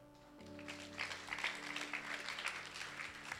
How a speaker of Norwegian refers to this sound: Og ta imot den beskjeden applausen du fikk. Den fortjente du. Kan vi ikke gi en ordentlig applaus?